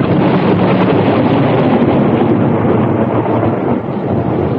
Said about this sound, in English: A cold wind rushed up the staircase.